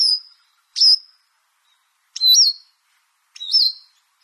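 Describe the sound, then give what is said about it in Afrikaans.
A kookie, a small dull bird with a grey head and back, whitish underside and a distinctive black triangle on its breast, gives its fine call: four thin, high-pitched notes, each short with a slight warbling inflection, spaced roughly a second apart, clear and alone with no voices. “Die kookie is maar 'n relatiewe vaal voeltjie met 'n grys kop en rug en 'n witterige onderkant, maar hy het 'n kenmerkende swart driehoek op sy bors en hy het maar 'n fyn ou roepstemmetjie wat so iets klink.”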